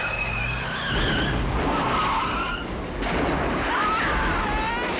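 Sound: car skidding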